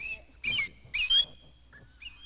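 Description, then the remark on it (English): A squeezed toy bird lets out two sharp, squeaky squawks in quick succession, then starts a third, each a short shrill burst against a quiet background. “Can you press your bird?”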